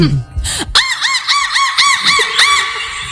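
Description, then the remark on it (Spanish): A woman, a screenwriter, imitates a seagull, letting out a quick run of about seven shrill, arching cries in steady rhythm, loud, with no talking over them. “…, guionista de Cuerpos Especiales, imitando una gaviota, por favor.”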